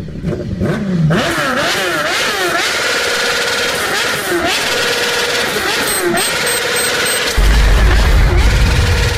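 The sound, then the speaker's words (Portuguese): A small Pop motorcycle engine revs hard, its pitch climbing and dropping in quick repeated surges as men speed off on it after a bank agency explosion in Maranhão, Brazil, with a deep low rumble joining near the end. “Agora a explosão de agência bancária no Maranhão com pop. Os caras pularam na pop, saíram voado, viu?”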